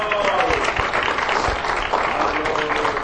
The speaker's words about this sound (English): Amen. Amen. Give the Lord a hand clap in the house.